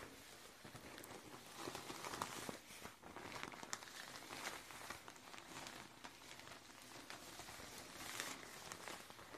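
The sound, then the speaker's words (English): Steady, dense crinkling and rustling of Thai Marbury paper being crumpled, a continuous crackle that lasts the whole stretch with no voices. “It's paper.”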